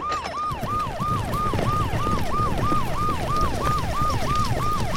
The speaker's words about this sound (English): Okay, Rabbi, I turn on the siren.